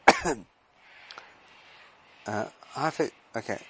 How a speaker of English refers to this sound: Sorry for coughing.